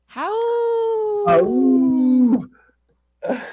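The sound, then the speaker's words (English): A person imitates a wolf on the radio show Native Roots Radio with one long, steady, loud howl lasting about two seconds, then a brief pause before another howling voice starts. “I warned you we were going to howl.”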